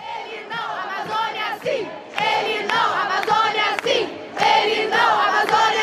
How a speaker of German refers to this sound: Ja zum Amazonas, nein zu ihm, rufen sie in Rio de Janeiro. SOS Brasilien steht auf den Plakaten, es gibt keinen Plan B für das Klima.